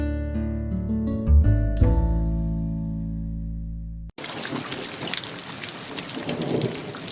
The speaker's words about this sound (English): It's raining and you are all wet.